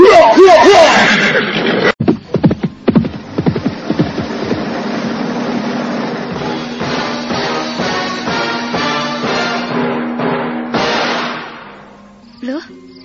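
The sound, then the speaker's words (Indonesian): A horse being ridden fast gallops, its hooves clopping in a quick, uneven rhythm after a brief voice. The hoofbeats then blur into a steady rumbling drone that fades out. “Jangan berkuda terlalu kencang, Tuan. Nanti saya jatuh.”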